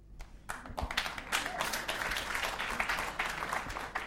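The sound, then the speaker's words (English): A crowd bursts into applause after a brief quiet start, the dense, crackling clapping swelling quickly and holding steady at a moderate level for several seconds, with no voices over it. “Well, I would clap if I wasn't a member of the staff.”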